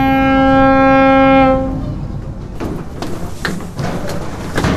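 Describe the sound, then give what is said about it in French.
The horn of the Vindilis ferry blasts a loud, steady low tone rich in harmonics for about a second and a half as the ship arrives and enters the port of Le Palais on Belle-Île, then cuts off, leaving a rumbling engine and harbour noise with scattered clanks. “jusqu'à ce que la sirène du Vindilis retentisse pour annoncer son arrivée et son entrée dans le port du Palais.”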